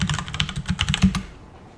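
Rapid keyboard typing as yahoo.com is entered on a computer during a 30-second timed search: a quick burst of about a dozen crisp key clicks in uneven rhythm, fairly loud, then the tapping stops and fades into quiet. No one speaks.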